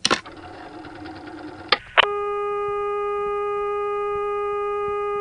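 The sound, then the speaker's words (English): A click, then a mechanical whirring rattle imitating the switch hook of a 1974 payphone slowly rising as the receiver is lifted, for under two seconds, ending in two clunks before a steady electronic dial tone hums on alone. “because rather than just coming up quickly, it rode up very slowly, and you could hear a mechanism inside the phone.”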